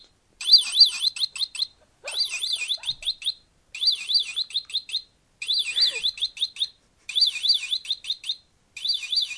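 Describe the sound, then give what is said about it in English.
An electronic bird-chirp alarm from a toy bird sealing a giant peanut, sounding when it is opened, repeats in short bursts of rapid, high warbling tweets, about six bursts with brief gaps between them, loud and mechanical-sounding with no voices. “There's a bird that stops you from opening it.”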